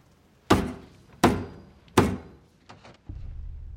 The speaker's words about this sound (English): She picks up a mayonnaise jar and thumps the lid on the table's edge.